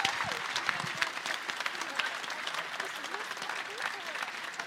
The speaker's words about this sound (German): Und jetzt, bevor ihr alle abhaut, nochmal den allergrößten Applaus des heutigen Tages, würde ich sagen, für die fantastische Moderatorin